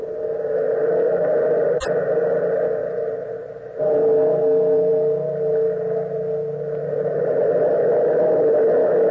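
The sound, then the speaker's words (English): A heavy bell, pulled by a bellkeeper, tolls with deep, resonant tones that hum and linger without fading, struck again partway through so the ringing swells once more. No one speaks. “Bellkeeper, pull the bell.”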